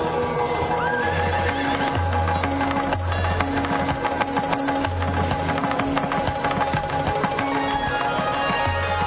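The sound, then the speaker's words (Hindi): A horse, the Uchchaihshravas obtained from the churning of the ocean and belonging to King Bali, neighs with a couple of rising, high whinnies over a steady, dense droning background with busy clattering texture throughout; no one speaks. “समुद्र मंथन से प्राप्त मेरा यह उच्च शोभा अश्व अपने असाधारण वेग बल और शुद्धता के लिए प्रख्यात है।”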